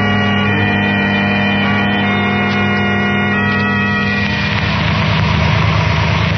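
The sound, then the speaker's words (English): A car engine idles with a steady low rumble and even harmonic hum as the car pulls over to the curb, then roughens and grows slightly louder near the end as if revving or shifting. No voices are heard. “The car with Herbert and the girls just pulling over to the curb, Dr.”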